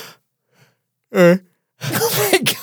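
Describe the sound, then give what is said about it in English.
A breathy yawn stretching nearly a second, preceded by a short voiced hum; no words are spoken, just the drawn-out exhale of someone yawning. “You can't yawn in a podcast.”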